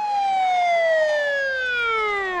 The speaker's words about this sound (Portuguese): A mulher levantou a mão e o silêncio impôs-se entre a multidão quando se ouviu um som de uma sirene.